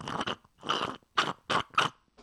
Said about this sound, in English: The funny thing is, it almost sounds like you're hitting a bong or something. I'm not. At the end of, no, it's not at the end. I was slurping my yerba mate.